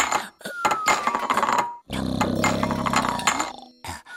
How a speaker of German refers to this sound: Miwau, das ist ja fast Musik. Miwau schlägt Topf an Topf, bis ihr einer aus dem Pfötchen fällt.